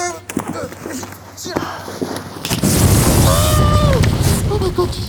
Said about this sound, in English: That is what a homemade flamethrower looks like.